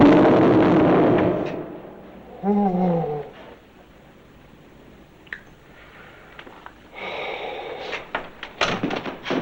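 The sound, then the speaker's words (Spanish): A heavy door, its knob gripped with difficulty, is pulled shut and slams with a loud, booming thud that rings out, followed by a brief creak and scattered softer knocks and rustling. “Agarra el pomo de la puerta con dificultad y al cerrar retumba en sus oídos.”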